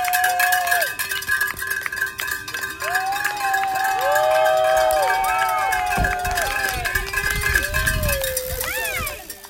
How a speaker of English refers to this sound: Those are some of the sounds of our spectathletes cheering on our triathletes into the wee hours of the night during race day.